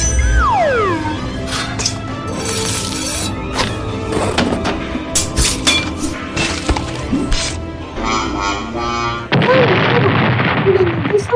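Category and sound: sound effect, explosions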